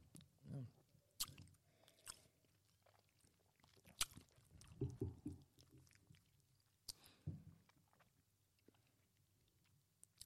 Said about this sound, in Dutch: Ik ga nog één slokje nemen.